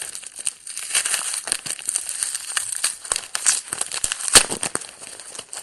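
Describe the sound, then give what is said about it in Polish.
Packing tape is peeled and torn off a package, a dry, crackly ripping with steady crinkling and one sharp snap near the end. No one speaks. “No to jest taśma, która generalnie to wszystko trzyma.”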